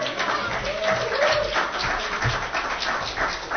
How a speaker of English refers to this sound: Thank you. You can clap. You can clap for Mike.